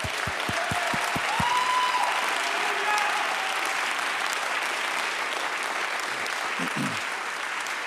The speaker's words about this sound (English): Somebody say praise the Lord. Clap your hands till they hurt a little bit.